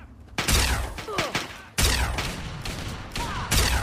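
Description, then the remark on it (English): Sustained gunfire from several raiders pinning a man down crackles in dense, overlapping bursts, with several sharp onsets of louder volleys cutting through a continuous barrage of shots. “As I got closer to the source of the radio signal, I could hear gunfire.”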